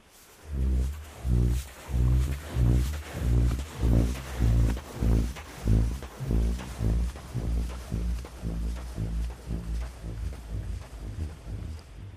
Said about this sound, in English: You said that one of the first places you went to was the American Southwest to hear sand dunes make a noise. We have a little clip from burping sand dune.